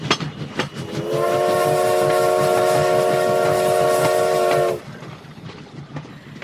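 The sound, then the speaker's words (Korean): A train bound for Shanghai rolls along the tracks at night with a steady rhythmic clatter while a long, loud horn blast sounds for several seconds before cutting off, leaving the wheels rumbling on. “열차는 20살 겁없는 여인을 싣고 상해로 밤을 패며 달리고 또 달렸다.”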